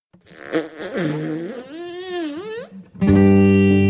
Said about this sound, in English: Farts are so fragile, they're fashioned from gas. Why must we squeeze just to help them to pass? Yet farts are so strong, once they break in the air, they're a surefire way for a room to get cleared.